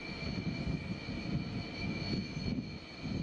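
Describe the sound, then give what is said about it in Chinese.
A J-15 fighter jet taking off from the aircraft carrier Liaoning during training, its engine roaring steadily, a dense low rumble topped by a thin, sustained high-pitched whine, continuous for the whole moment with no voices. “看了辽宁舰歼十五飞机起飞训练情况。”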